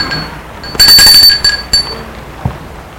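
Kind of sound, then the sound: household object, doorbell ringing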